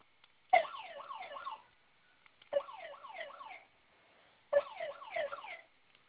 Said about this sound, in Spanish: Oprima los dos botones al mismo tiempo. Se va a activar su alarma. En cuanto suene, ingrese su clave para silenciar, por favor.